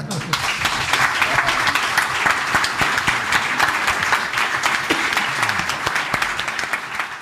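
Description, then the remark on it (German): Sustained audience applause from a sizable crowd at the close of a live science talk evening in Lower Austria, a dense steady wash of many hands clapping at once for several seconds, fairly loud, with no talking over it. “Wenn Sie das Gefühl haben, der ist auf Sie übergesprungen, dann nehmen wir jetzt zum Abschluss ganz, ganz gerne Ihren Applaus für diesen Abend.”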